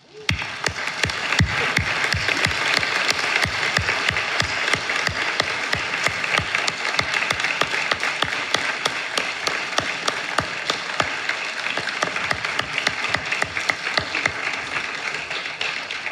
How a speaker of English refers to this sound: I think their applause says it, but you are heroes, beyond heroes.